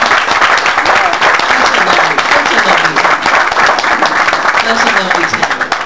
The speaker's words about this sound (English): And so, first of all, why don't we just give a clap to all of the musicians, the ministrations that are working.